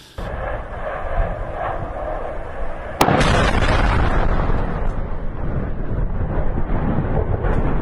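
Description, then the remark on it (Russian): A low, heavy rumble of ongoing blasts gives way at about three seconds to a sharp, loud detonation, then a sustained roaring, crackling boom without voices: likely a secondary detonation after a strike on a Shahed drone storage, assembly and launch base near the former Donetsk airport. “Скорее всего, там была вторичная детонация.”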